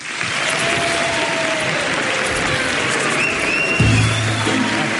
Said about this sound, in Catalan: Us demano que doneu un fort aplaudiment per rebre el primer dels convidats d'avui, el primer dels protagonistes d'avui, com és en Jordi Basté.